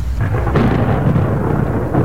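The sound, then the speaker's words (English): A loud thunder crack from a lightning strike that hit a man on Bowen Island, British Columbia, Canada, bursts out, followed by a heavy, sustained low rumble that fills the rest of the moment, with no voices present. “On the evening of August 16th and the morning of the 17th, more than 1,600 lightning strikes hit southern BC”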